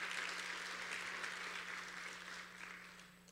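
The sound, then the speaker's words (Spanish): A crowd claps steadily in a dense, continuous burst of applause given to the Lord, fading slightly toward the end, with a low electrical hum underneath. “Dar un fuerte aplauso al Señor si quiere recibir esa paz de parte de Dios.”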